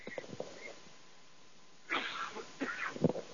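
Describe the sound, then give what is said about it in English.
A few soft, brief throat-clearing noises, then a louder burst of raspy coughing and clearing near the end, with no talking. “Excuse me, I got a little frog in my throat.”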